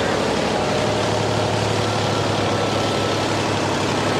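A loud, close engine roars steadily with a deep, throbbing low hum, holding a constant rough rumble throughout without pauses.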